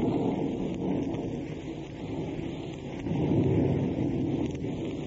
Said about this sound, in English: As we open, we find Eddie Bracken at Dottie's house at Malibu. The night is rainy and accompanied by thunder and lightning.